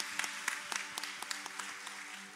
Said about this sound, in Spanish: Si usted está aquí por primera vez, pudiera levantar la mano para ahí nosotros poderle reconocer y darle un regalo de parte de la iglesia. Acá tenemos a un caballero, bienvenido. Fuerte aplauso.